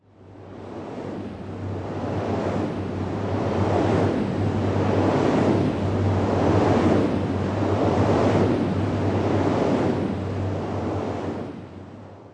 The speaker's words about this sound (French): En rentrant, je me suis arrêtée au bord de la route et j'ai vu de grandes structures avec un mât et trois pales toutes blanches. Elles aussi, elles ont besoin de vent et elles font ce bruit.